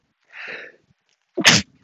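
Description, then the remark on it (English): A single loud sneeze: a short breathy intake builds first, then after a brief pause comes one sharp, explosive burst before silence. “If a sneeze needs to come out, if a sigh needs to come out, let it out.”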